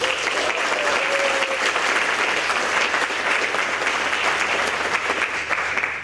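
A large audience at an EMF event claps steadily and loudly to welcome a speaker, a dense, sustained wash of applause filling the whole stretch without any pause or voices breaking through.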